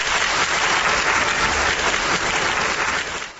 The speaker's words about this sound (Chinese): 南博的冬夜，在火箭军某旅礼堂里，一场导弹精兵先锋模样的情景课精彩上演。伴随着铿锵的旋律，数位高级军士身披红色绶带，胸前挂满奖章，精神抖擞地走上舞台，赢得了官兵们经久不息的掌声。